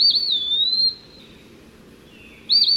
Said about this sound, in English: The eastern peewee has a catchy tune, too.